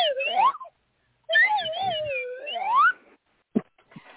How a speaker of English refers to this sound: Ah, slide whistling. Slide whistling, ooh.